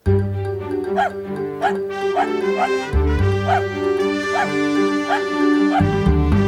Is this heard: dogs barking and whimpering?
yes